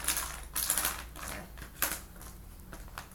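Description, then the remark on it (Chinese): Small hard letter tiles from a word game clatter and click in quick irregular bursts as they fall out, a few louder clusters standing out, with no talking. “Are you setting up racks for the tiles?”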